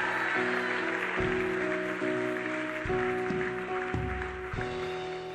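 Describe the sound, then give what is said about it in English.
A crowd claps and shouts praise to the Lord in a steady, dense wash of noise, while sustained organ or keyboard chords shift underneath throughout. “Come on, somebody, give the Lord a shout and a clap in this place.”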